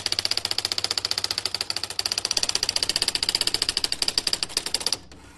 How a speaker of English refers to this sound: And finally, a new typewriter, the Adler Satellite 80. It's electric. There you go.